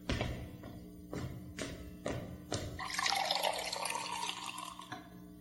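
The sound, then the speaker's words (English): A few short clinks and knocks, then a steady splashing pour of water filling a glass for a drink for a couple of seconds before it stops. “Okay, here's the water.”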